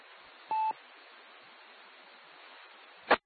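A single short dual-tone keypad beep rings out clearly over a steady hiss of line noise, followed near the end by a brief burst of clicky noise.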